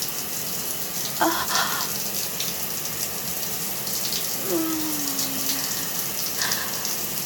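Shower water runs in a steady, even hiss throughout, with a couple of faint, brief tonal sounds, one a soft falling whine, rising above the spray.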